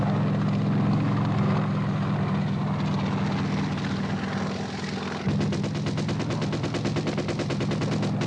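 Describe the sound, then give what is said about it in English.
A helicopter roars loud, its deep rotor drone steady at first, then shifting midway into a faster, sharper rhythmic chopping as it comes in to land troops at a landing zone. No one speaks. “Getting out of those choppers, getting off the LZ. We're going in.”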